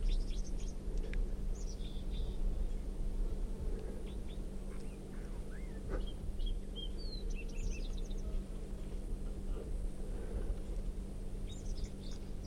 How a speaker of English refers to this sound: And that song coming from, I think, 305. Recording. This wild bird is red, and it has a right crossing bill, and it has quite a bit of yellow right down the middle of the belly.